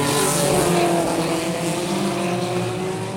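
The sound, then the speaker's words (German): Racing cars race neck and neck at high speed, their engines whining loudly and steadily with a sustained high-pitched drone that holds throughout, intense with no voices. “Die Autos liegen Kopf an Kopf.”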